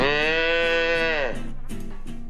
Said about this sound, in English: It was like being in some sort of speakeasy, you know, back in the 1920s, and all the cows just chatting amongst themselves and putting the world to right.